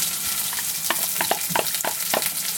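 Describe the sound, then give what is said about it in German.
Onions sizzle in hot oil in a cooking pot with a steady, broad crackling hiss, punctuated by a series of sharper pops and spits at roughly regular intervals. No one speaks. “Wenn er fast zischelt, ne, das ist Öl und Zwiebeln.”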